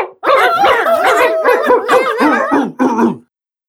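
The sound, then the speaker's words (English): A boxer dog barks and yowls in a loud, unbroken run of warbling vocalizations lasting about three seconds, then goes quiet. No one speaks. “What kind of dog are you, Brother Spike? I'm a boxer.”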